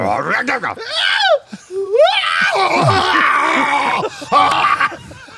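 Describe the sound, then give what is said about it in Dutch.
A voice acts out a high-pitched scream, with shrill rising and falling cries that slide down into a deeper, rough, roaring groan. It is loud, with laughter-like bursts in between. “Het was een hoge gil die overging in een soort oer.”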